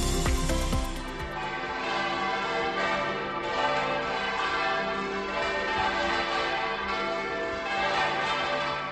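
The bells of Santander Cathedral in Cantabria, Spain, peal continuously in a dense, overlapping celebratory clangor, loud and reverberant, many strikes blending into a rich ringing wash, greeting the white smoke of the conclave that announced the election of a new Pope.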